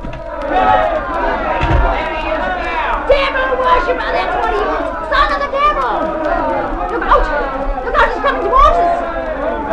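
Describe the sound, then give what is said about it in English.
An angry crowd clamors outside, a dense, steady roar of many overlapping raised voices, with individual shouts rising and falling throughout, loud and unbroken for the whole stretch. “I'll go out and speak to the crowd.”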